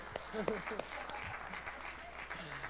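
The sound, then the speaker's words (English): An audience applauds the announcement of a brand new projector in a steady, dense wash of clapping lasting a few seconds, with scattered voices and brief calls rising through the noise. “Yeah, go ahead and clap because you know where I'm going next.”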